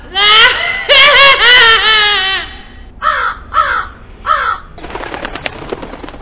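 A crow caws loudly several times as Medivh turns into a crow and flies away: a run of harsh, drawn-out calls, then three shorter caws after a pause, ending in a soft rustle like wings flapping away.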